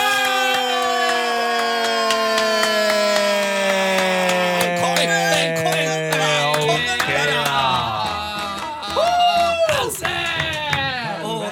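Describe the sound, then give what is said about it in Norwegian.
Whining radio-controlled car motors buzz continuously, several high-pitched tones sliding slowly downward together, then revving up and down in quick sweeps near the end, loud and steady throughout. “Og du har svart: dette må være RC, altså radiostyrte biler.”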